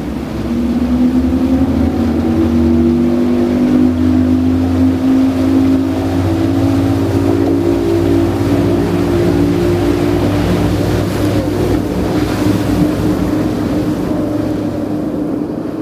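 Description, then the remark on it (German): A high-speed inflatable Zodiac boat's engine roars steadily as it races with raised bow over the waves across a bay, searching for whales on a sunny day, a loud sustained drone with spraying water and whistling wind underneath, no voices. “Das Schlauchboot rast mit erhobenem Bug über die Wellen. Das Wasser spritzt und der Wind pfeift uns um die Ohren.”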